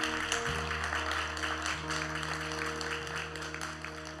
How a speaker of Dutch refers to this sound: En ik wil een applaus voor deze mensen die hun hand hebben opgestoken.